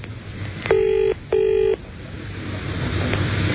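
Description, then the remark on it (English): A telephone ringback tone sounds a single double burst, two short steady electronic tones close together, while a call to a phone in a radio studio waits to be answered, over a low background hum. “Like some soft music while we wait until they're good and damn ready to pick the phone up?”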